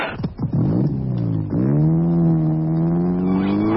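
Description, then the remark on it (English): Loud supercar racing engines rev hard, rising in pitch, dropping sharply, then climbing again into a sustained high-powered roar, for a motor race at Brands Hatch, the Rothmans 50,000 Supercar Spectacular. No voices. “Hey now, the supercars are coming to Brands Hatch.”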